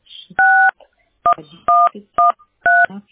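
A phone number is keyed in as a quick series of DTMF beeps, five steady dual-tone bursts of varying length with brief gaps between them, loud and clear.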